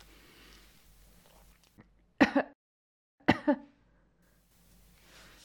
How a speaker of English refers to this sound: I fake a gentle cough to give you something to focus on.